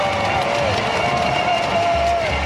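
Slovenian fans in the Stožice arena cheering the Slovenian volleyball team loudly and continuously, a dense roar of many voices with a steady, sustained intensity and faint whistle-like tones rising above it.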